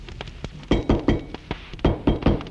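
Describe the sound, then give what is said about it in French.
A run of solid, hollow knocks on a door, about nine raps in uneven groups, fairly loud, with no voices. “On a frappé à la porte.”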